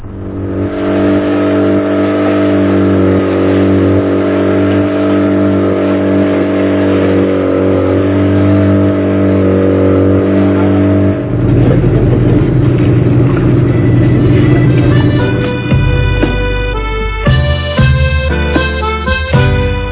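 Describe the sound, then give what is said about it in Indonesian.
The outboard motor of a pompong, a small wooden boat, drones loudly and steadily on the crossing to Pulau Penyengat, then its pitch shifts and it revs unevenly through the final seconds. No one speaks. “Untuk mempercepat perjalanan, kami pun menyewa sebuah pompong, kapal kecil dari kayu dengan mesin tempel.”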